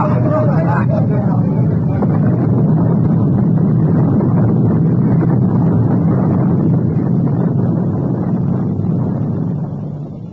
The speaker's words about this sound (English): Once proud Morning Star slid beneath the waves, her boilers bursting in her last dying gasp of defiance.